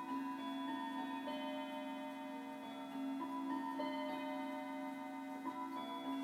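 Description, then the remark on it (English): A clock chimes on metal rods, one rod badly out of tune, struck notes ringing out one after another and overlapping into a sustained, shimmering tone, steady with no voices. “And yes, before anyone mentions it, I know one of the rods on that clock is horribly out of tune.”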